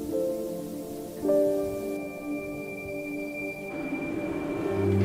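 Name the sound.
train approaching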